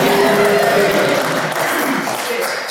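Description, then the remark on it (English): An audience at the Great Arizona Puppet Theater applauds in a dense, steady wash of clapping that holds at an even, loud level for about three seconds, with a faint murmur of voices mixed in. “It's okay to clap.”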